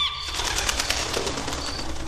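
A bird is heard over steady background noise, with a soft fluttering, rustling texture and a brief thin chirp near the end. No one speaks.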